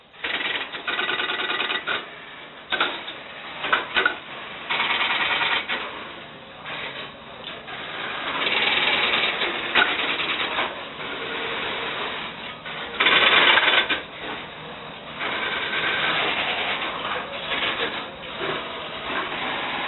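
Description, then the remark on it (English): Dense, continuous mechanical clattering from a fully mechanical, non-electronic electromechanical telephone exchange, with rapid clicks and relay chatter swelling and easing in bursts for the full stretch, fairly loud, with no voices. “Nothing electronic, all mechanical gizmos. The telephone technicians truly loved this mechanism.”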